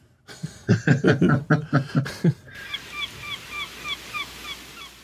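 Seagulls calling in the show Little House: a burst of loud, raucous cries, then a steady series of thinner, fainter mewing calls repeating.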